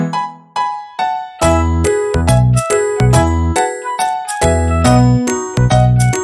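Bright wind chimes ring out, a few separate strikes at first, then a dense, overlapping jangle of metallic notes that shimmer and decay, fairly loud with no voices.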